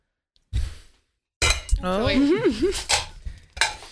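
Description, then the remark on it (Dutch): Cutlery clinks against a plate as a knife cuts through a loaf of stollen, a short clatter followed by a longer stretch of scraping and clattering, with someone talking over it. “Oké, dan ga ik stol voor je snijden.”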